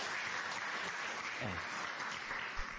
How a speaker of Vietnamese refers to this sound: Các vị phải dành một tràng pháo tay cho những người phụ nữ này của chúng ta mới đúng chứ.